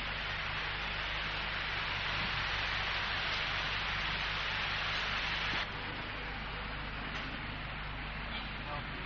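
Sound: heavy rain falling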